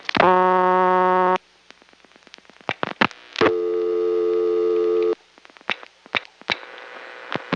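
A buzzy, harmonic dial tone from the tone generator of a PBX, getting up to speed after the phone is picked up, sounds in two long steady bursts, separated by sharp clicks and crackles, with a fainter tone returning at the end.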